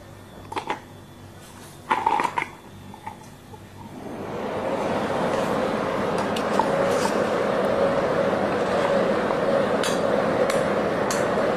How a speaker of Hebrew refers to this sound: מקישה? את מקישה עם הקף על הסיר? בום בום בום.